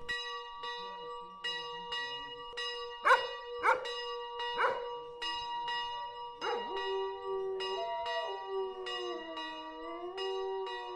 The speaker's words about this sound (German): Wir hören jetzt im Hintergrund langsam die Glocken läuten, die zum Stundengebet rufen, dazwischen mit Hundegeheul. Ihre Hunde lieben die Glocken offenbar auch sehr.